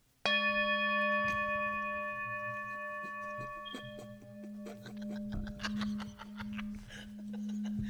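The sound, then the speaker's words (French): A Tibetan singing bowl is struck once like a gong, its bright layered overtones and low hum ringing steadily for several seconds, then laughter and voices break in over the lingering tone. “Fait que là, pour l'occasion, j'ai amené mon bol tibétain.”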